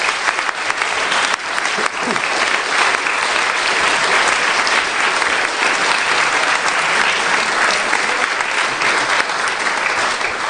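Sustained audience applause, a dense, steady patter of many hands clapping at an even loudness for about ten seconds, with no talking over it.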